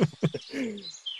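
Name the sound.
bird chirping sound effect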